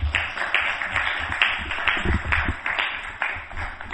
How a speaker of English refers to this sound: Thank you very much. Round of applause for Prabhuji.